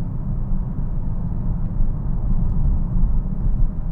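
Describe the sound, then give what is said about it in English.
A bus rumbles past, its heavy low engine drone steady and loud for several seconds with slight swells, with no voices over it. “There goes a bus getting in our way.”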